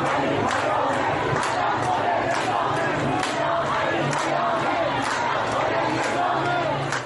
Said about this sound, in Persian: اما این مردم با پایین کشیدن نمادهای جمهوری اسلامی خواسته‌شان را یک صدا فریاد میزنند.